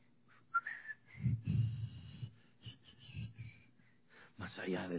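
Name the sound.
whistling a hymn tune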